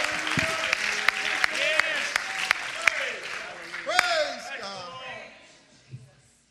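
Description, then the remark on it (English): An audience at a Christian service claps their hands in a loud, dense burst of applause, with raised voices and shouting to God mixed in, then it fades out over the last couple of seconds. “Oh, let's clap our hands and shout unto God.”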